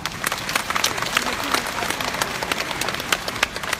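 A crowd applauds with dense, rapid clapping that continues steadily for several seconds, bright and fairly loud throughout.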